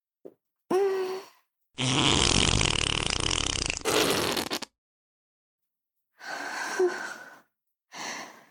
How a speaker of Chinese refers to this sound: 今天很开心啊，放个屁庆祝一下吧。